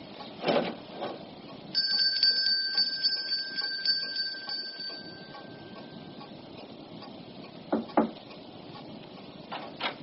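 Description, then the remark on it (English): A bell rung to summon a servant rings once with a bright, sustained high tone that rings on for a few seconds before fading, preceded and followed by faint shuffling and a couple of soft knocks. “You rang for me, miss?”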